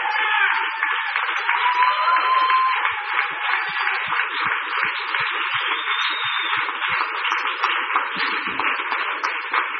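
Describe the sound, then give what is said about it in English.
A church audience applauds in a steady, dense round of clapping that lasts the whole stretch, sounding thin and tinny with little low end, with faint cheering mixed in. “I think these guys need a round of applause from you.”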